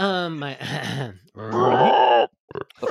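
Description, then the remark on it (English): A person imitates a deep, frog-like croak: two rough, groaning vocal bursts, each lasting about a second, followed by a few short, breathy clicks. “But just a massive, like, frog-like croak coming from inside.”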